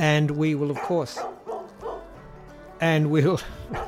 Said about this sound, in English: Oh, perfect. The dogs are barking. The dogs, they can sense that we're wrapping up and they're saying, Dad, can you come out here and play with us or something? I think it's their dinner time.